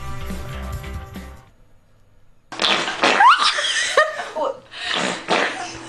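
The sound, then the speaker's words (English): A queef sounds first, a low, buzzy, sputtering air release lasting over a second. After a short silence, loud laughter and chatter fill the rest. “It is a queef. Wow. Yes, that is a queef.”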